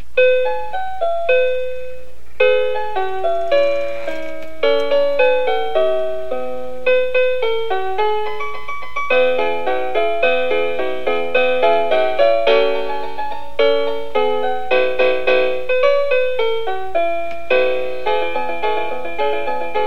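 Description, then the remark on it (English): A Maestro Mouse musical toy plays the Jingle Bells tune as a bright electronic chime, with clear repeating bell-like notes in a steady bouncy rhythm, loud, with no talking. “Put a song on my music stand, and I'll play it for you.”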